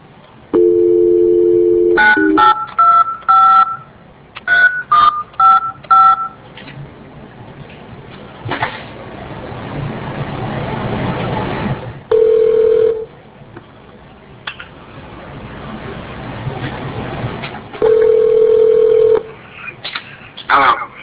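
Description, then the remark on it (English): A phone line gives a brief dial tone, then a quick run of keypad beeps as a court dials one of two phone numbers for a program participant, followed by two long ringing tones spaced several seconds apart over faint line hiss. “We got two different phone numbers. We'll try one.”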